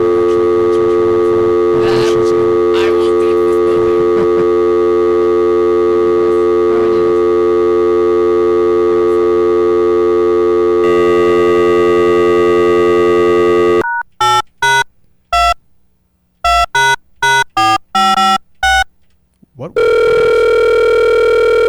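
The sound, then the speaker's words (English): A phone line rings out on an outgoing call, steady electronic tones droning, followed by a quick run of short keypad-like beeps and then another sustained tone. “So how many rings? Like, I need to shorten the number of rings.”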